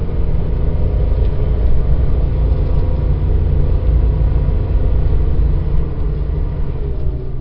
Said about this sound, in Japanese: やっぱね、軽自動車だからエンジンがちょっとね、うるさいですね。 まあでも、まあそこが、 ね、 よくね、いい感じでもありますね。